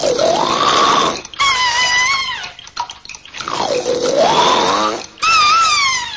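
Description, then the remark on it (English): Geppetto snores loudly and exaggeratedly in his sleep: two full cycles of a rumbling, gurgling inhale followed by a sliding, whistle-like exhale, with no talking. “Geppetto snores.”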